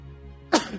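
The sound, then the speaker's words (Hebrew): A single sharp sneeze bursts out after a moment of quiet, loud and explosive, then trails off quickly. “לבריאות.”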